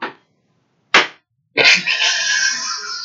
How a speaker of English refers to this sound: I diva slap my ass as I'm getting off the elevator.